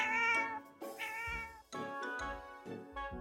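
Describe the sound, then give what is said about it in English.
A cat meows loudly and repeatedly, with several drawn-out, wavering yowls in quick succession, with no one speaking. “The cat is in the backpack.”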